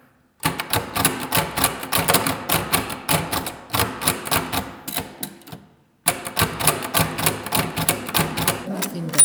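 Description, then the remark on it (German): Rapid mechanical clacking of a braille typewriter printing dots, keys striking in quick irregular bursts with a brief pause midway before the typing resumes, fairly loud with no one talking. “Klingt das, wenn ich mit meiner blinden Schreibmaschine schreibe.”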